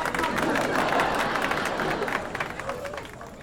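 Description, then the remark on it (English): A crowd in a park applauds as an elephant walks slowly on two logs, with dense, steady clapping mixed with cheerful laughter and babble, loud at first, then tapering slightly toward the end. “Everybody laughs and applauds.”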